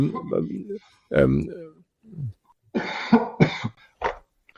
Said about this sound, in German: Lass mich an von meinem Husten, der ist immer so.